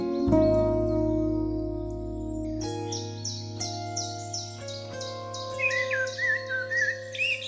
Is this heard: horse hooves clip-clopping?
no